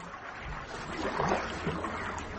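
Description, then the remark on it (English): A boat moves steadily through water, with a continuous wash of splashing and a low rumbling undertone, moderately loud, with no voices. “Let's make for Clifton and sit in a boat.”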